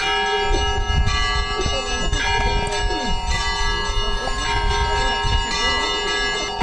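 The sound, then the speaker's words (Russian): Church bells peal continuously and loudly in the Sysert district, summoning the whole area to a solemn event as a bishop is welcomed, several bells overlapping in a dense, ringing clangor with sustained resonant tones and a busy low rumble beneath. “Колокольный звон не переставал, созывая всю округу на это торжественнейшее и важное событие.”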